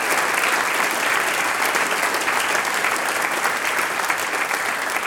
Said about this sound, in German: Die kriegen noch einmal einen großen Applaus.